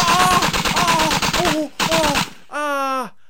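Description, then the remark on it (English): A loud, rapid burst of automatic gunfire rattles for about two seconds, pauses briefly, fires again, then gives way to a short, pained vocal groan. “Oh, gunshot wound.”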